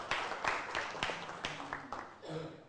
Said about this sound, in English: Give him a big round of applause.